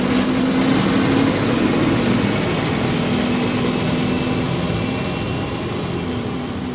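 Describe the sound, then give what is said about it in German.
A Vogtlandbahn regional train pulls out of a station, past the station building, at over 600 metres altitude. It makes a steady, loud rumble and a low engine hum, easing off only slightly as it moves away. No one speaks. “Und hier seht ihr die Ausfahrt der Vogtlandbahn und das Bahnhofsgebäude.”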